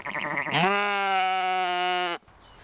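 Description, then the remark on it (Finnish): A single sheep grazing on a natural meadow pasture lets out one long, steady bleat, loud and strongly tonal for about a second and a half, then cuts off abruptly to quiet outdoor background. “on luonnontilainen niitty, jossa lampaat saavat laiduntaa.”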